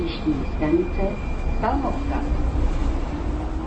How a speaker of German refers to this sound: Mit der U-Bahn fahren wir hinaus an den Stadtrand.